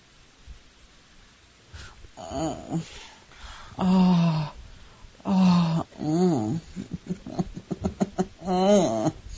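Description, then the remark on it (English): An intimate voice growls into a listener's ear, a series of low, drawn-out growling vocalizations, each several seconds long with rising and falling pitch, separated by short pauses and quieter breathy sounds. “Lean over and just growl in your ear.”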